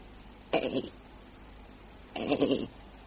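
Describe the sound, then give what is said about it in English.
Two short, wavering bleats from a mangy old black goat, separated by a pause of over a second, each a nasal, throaty cry with rich harmonics. No one talks between them. “Hey, there. Is that you, goat?”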